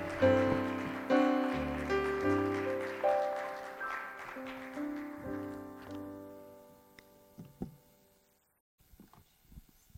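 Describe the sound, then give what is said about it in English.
A church audience claps a hand clap of praise as a visiting preacher comes up, a dense patter mixed with loud sustained organ chords that shift every second or so, then fade out near the end. “Come on, give the Lord a hand clap of praise as he comes.”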